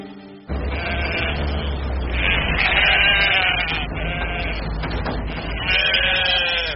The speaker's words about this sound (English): You too, you dumb sheep. She's trying to tell you something. She said, baa.